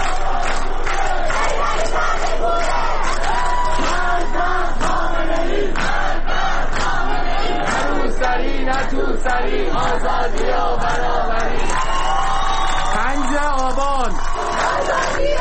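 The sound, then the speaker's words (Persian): A large crowd of protesters chants and shouts together at a night demonstration in Tehran, in areas such as Narmak and Chitgar, on a Thursday: a dense, loud wash of many voices with rhythmic rising cries, whistles and yells continuing steadily throughout. “تصاویر ویدیویی دریافتی پنجشنبه از تظاهرات شبانه در نقاط مختلف تهران، از جمله در نارمک و شهرک چیتگر، با شرکت جمعیتی کثیر خبر می‌دهند.”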